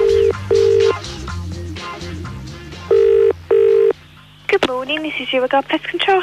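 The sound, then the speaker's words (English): A telephone ringing tone for a prank call to a pest control company sounds in two pairs of steady, mid-pitched double rings, with a low musical bed beneath, before a woman's voice answers. “ended up making this phone call to an even more confused woman.”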